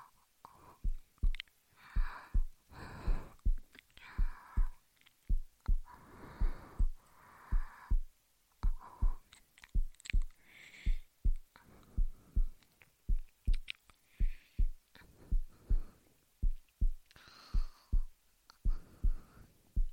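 heartbeat

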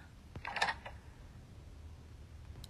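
door being locked

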